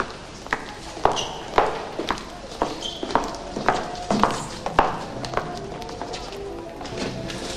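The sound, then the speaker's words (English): Steady footsteps walk along a backstage corridor, a dozen or so sharp, hard taps at an even brisk pace, with faint murmuring in the background between the steps. “They walk along the backstage corridor.”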